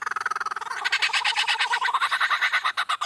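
A lyrebird mimics a chainsaw: a loud, rapid rattling buzz of evenly pulsed bursts that brightens and intensifies after a moment, continuing steadily for a few seconds with no voices.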